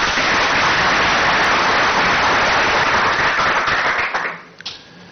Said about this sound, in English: I've stayed here partly because I enjoy the applause,